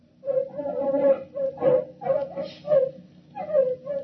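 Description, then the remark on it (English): Artificially enlarged terriers loosed in a field of crops yip and whine in a rapid run of short, high, tonal bursts, five or six in about four seconds, moderately loud, with no talking. “Following tape, field observation of terriers.”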